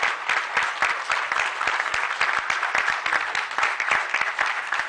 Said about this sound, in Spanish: Este aplauso lo debemos es al esfuerzo de ustedes, apreciados compañeros.